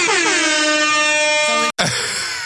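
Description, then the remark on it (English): A loud, blaring DJ air horn blast holds steady for about a second and a half, cuts out briefly, then a second burst sounds with some cheering or noise behind it. “boosting for the DJ air horn”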